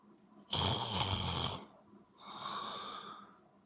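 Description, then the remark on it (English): Two heavy, raspy breaths blown close into a microphone, the first loud and rough, almost snore-like, the second softer and shorter, with no talking. “we're all heavy breathers right into the mic, and she can hear that a lot during the podcast.”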